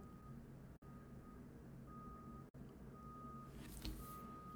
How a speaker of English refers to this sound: And of course, there's construction going on behind me, so they have this truck that's apparently stuck in reverse. That's all I'm hearing is the backup beeper.